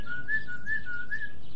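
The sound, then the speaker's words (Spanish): A person whistles a short call to summon a dog: a clear, steady whistled tone with a few slight pitch rises, heard alone over a quiet background. “Oye, a ver, repite ese silbido, sí. ¿El del llamar al perro?”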